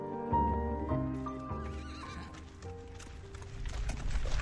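A horse lets out a long, loud whinny, followed by the steady clip-clop of hooves on a hard surface, with no voices.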